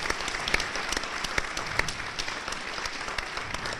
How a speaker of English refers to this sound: I think that merits some applause, too. Yeah.